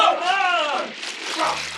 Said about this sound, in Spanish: Siete hombres ranas se arrojan al agua.